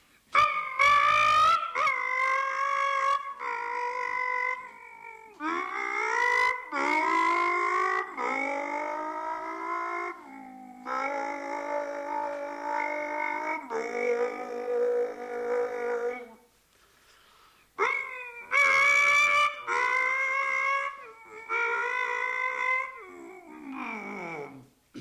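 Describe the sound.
A man's voice mimics racing cars roaring past in the Col de Perty: a Porsche 914 driven by Larousse, then Terrier in a blue Alpine Renault berlinette. The imitation is a string of rising and falling buzzing revs with sharp gear-change breaks, loud and continuous, with one brief pause midway.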